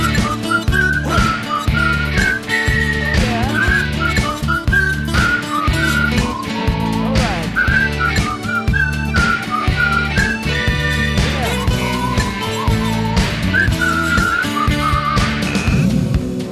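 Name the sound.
person whistling a tune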